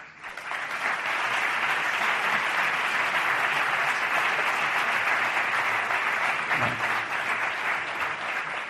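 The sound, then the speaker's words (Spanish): Sustained applause from an audience at an awards ceremony with 30 awards, as an award presented by the commercial head of COPE Guadix is collected: a dense steady wash of clapping that rises quickly and holds at a constant loudness for several seconds, with no voices standing out. “Ojo con los aplausos, son 30 premios, a 2 por aplauso por premio, más discursos, lo digo por si queréis ir economizando, ¿vale?”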